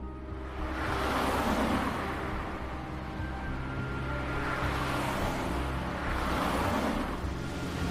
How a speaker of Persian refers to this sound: شب مهتاب با ماشین تو خیابونه. ماشین مهتاب میره تو حیاط خونه ی عشیری.